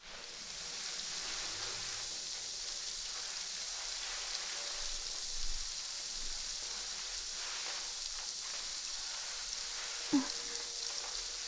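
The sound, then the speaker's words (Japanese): Steady fizzing and fine crackling of carbonated shampoo foam on a person's scalp during a carbonated scalp massage, like tiny bubbles bursting continuously in the hair, with a faint soft bump near the end and no voices. “シャンプーの泡の中に炭酸が入ってて、頭皮をパチパチパチパチって刺激するんだ。”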